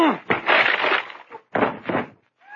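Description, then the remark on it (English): A heavy crash as someone lunges at a wooden door and it splinters and breaks, with a burst of cracking and crunching, a brief pause, then a second round of splintering wood that trails off. “I'm going to lunge at the door.”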